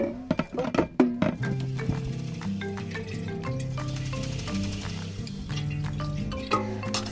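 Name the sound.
spoon stirring coffee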